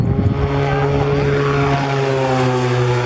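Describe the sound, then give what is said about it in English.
A propeller drone, apparently an Albatross 2, operated by soldiers in camouflage at a military shooting range in Taimali Township, Taidong, Taiwan, drones steadily and loudly. Its engine whine holds a buzzing tone with slight pitch shifts as it passes. No one speaks. “Soldiers in camouflage operate what appears to be an Albatross 2 drone, which was unveiled last year.”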